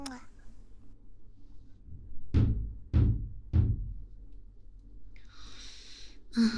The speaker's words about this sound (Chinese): 这么晚了，怎么还有人敲门呢？